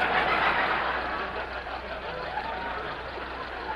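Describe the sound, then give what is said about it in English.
An old jalopy car's engine runs as the car barely crawls along, a steady, rough drone, a broad rumbling hum holding at an even loudness throughout, with no voices over it. “Will you please step on the gas? We're barely crawling.”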